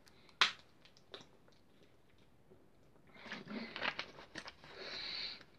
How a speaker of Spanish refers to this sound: voy a tomar un poquito de agua, amigos.